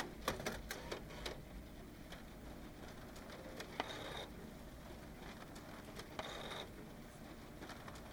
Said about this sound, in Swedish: För varje papper som den sakta matar ut sprids ett varmt ljussken. Papper efter papper singlar sakta ner på golvet.